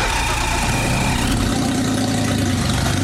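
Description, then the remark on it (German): A car engine with a worn-out exhaust runs loud and rough with a deep, rattling exhaust drone, idling and grumbling steadily throughout, with no talking. “So klingt es, wenn sich Ihr Auto nach einem neuen Auspuff sehnt.”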